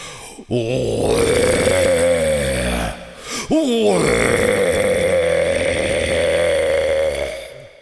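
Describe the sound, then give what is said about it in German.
A man's voice, playing Rüdiger the roaring stag, imitates a rutting stag's roar: two long, loud, guttural bellows, the first rising then sliding down, followed by a brief pause and a second, longer drawn-out roar. “Nein, ich bin Rüdiger, der röhrende Hirsch, und ich röhre.”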